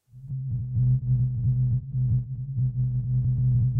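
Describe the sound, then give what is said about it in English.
A recording of a single whale's call, shifted up in pitch from its original very low frequency: a steady, low, droning tone rich in harmonics, pulsing in quick repeated beats for several seconds, fairly loud and with no talking. “And if you couldn't hear that, here it is shifted up a bit to make it easier.”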